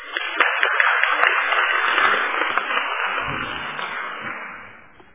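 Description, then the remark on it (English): A crowd's round of applause as a minister is invited to the podium, dense and steady for several seconds before tapering off, sounding somewhat thin and muffled as if heard over a limited broadcast feed. “If I may invite the minister to come to the podium to address us, can we give a round of applause?”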